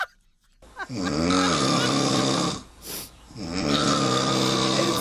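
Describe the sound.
A person loudly imitates snoring, making two long rasping, rattling snore sounds with a short breathy pause between them.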